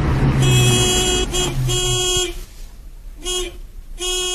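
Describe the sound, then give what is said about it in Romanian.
A car engine rumbles as the car pulls up and stops at a gate, then cuts out, while a horn honks several times in a broken rhythm, with longer and shorter blasts continuing after the engine goes quiet. “Parcă s-a oprit o mașină la poartă.”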